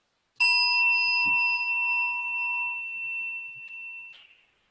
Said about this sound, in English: Let's do a gong, I brought one. And the question is, where is the hearing taking place? Does our mind go to the gong to hear it, or does the gong come to our mind to hear it?